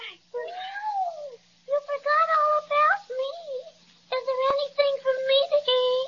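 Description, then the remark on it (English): A cat meows repeatedly, a series of drawn-out, wavering whiny cries with short pauses between them, fairly loud and with no other sounds around. “Well, I didn't mean to overlook you, little fraidy cat.”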